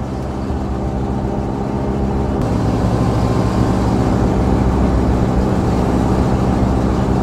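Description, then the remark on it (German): Steady low engine drone of a vintage limousine being driven, loud, with a constant rumble and road noise throughout; a slight shift in tone a couple of seconds in, no voices. “Aber ich kann euch sagen, das ist ein erhebendes Gefühl, mit so einem Wagen zu fahren.”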